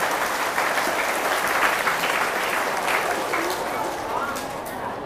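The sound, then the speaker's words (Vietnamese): A crowd applauds steadily, a dense wash of many hands clapping at an even, loud level throughout, tapering slightly toward the end. “Nếu các bạn nghĩ rằng là việc nghĩa đáng làm thì hãy dành một tràng vỗ tay thật lớn để nỗ lực làm.”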